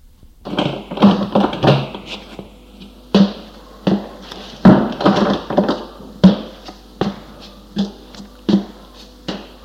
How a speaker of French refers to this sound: La porte s'est ouverte en face de lui.